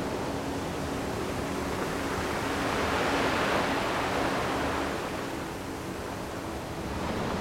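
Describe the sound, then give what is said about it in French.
Waves wash onto a shore in a steady, hissing roar that swells into one fuller surge midway before easing back. No voices are heard. “Le claquement des vagues.”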